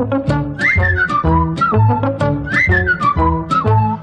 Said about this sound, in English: Whistle along, join in the song.